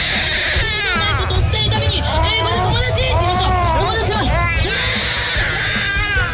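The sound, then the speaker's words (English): Several children wail and cry loudly and continuously, their high, wavering sobs overlapping against a noisy background of crowd babble, with no break in the distress for the whole stretch. “Who'd want to be at Disneyland? Screaming children.”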